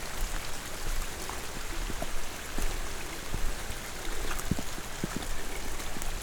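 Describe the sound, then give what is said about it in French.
Steady rain patters and drips through dense foliage of a humid tropical virgin forest while the sun shines, a constant wet hiss with scattered drops tapping on leaves, few birds singing and no voices standing out. “C'est là, la forêt vierge. Humide.”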